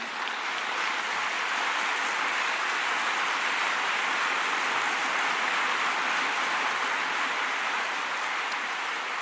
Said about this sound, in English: There is big, long applause in the room.